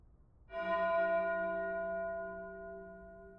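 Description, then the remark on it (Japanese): A single bell rings once at a distance, its rich overtones sounding together and then slowly fading over a few seconds. No voices accompany it. “遠くに響くこの鐘の音。聞き覚えありますよね。”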